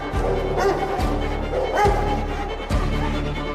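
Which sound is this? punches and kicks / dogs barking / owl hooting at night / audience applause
dogs barking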